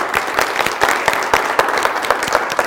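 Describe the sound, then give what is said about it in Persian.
An audience applauds themselves, a dense patter of many hands striking at once with sharp, overlapping slaps. It stays fairly loud and even throughout, with no voices standing out. “تشویق کنید خودتون رو بشین.”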